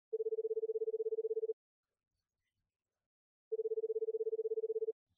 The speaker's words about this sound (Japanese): 電話がつながり、電話の呼び出し音がする。